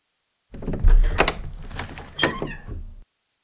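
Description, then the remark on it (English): The door of a home being opened: a solid thunk as the latch gives, then rattling and a scraping swing that ends with a second knock, about two seconds long with no voices. “He goes home and opens the door.”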